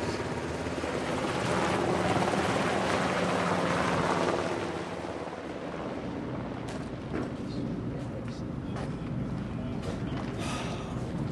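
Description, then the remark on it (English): A helicopter's steady, loud rotor roar fills the scene, strongest early on and easing slightly as it lifts off carrying the bodies of two soldiers from the Stryker Brigade, with wind buffeting and faint voices beneath the engine noise. “And the Stryker continues to burn and cook off ammunition as the helicopter lifts off with the bodies of the two soldiers from the Stryker Brigade.”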